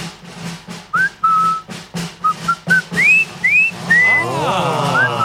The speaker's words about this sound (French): ils savent pas siffler